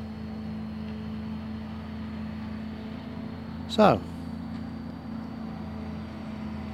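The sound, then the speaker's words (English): A lawn mower, used by a man mowing the lawns of a cemetery, drones steadily, low and fairly quietly throughout, with a single brief spoken word cutting in partway through. “from the relative peace and quiet of the cemetery, with the chap mowing the lawns, I should bid you farewell on this another rambly boo.”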